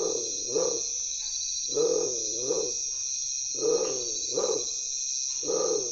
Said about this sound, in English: Undoubtedly, the name was derived from the plumage having a tiger-striped pattern, but the moment you hear its voice, you can't help think of a large cat.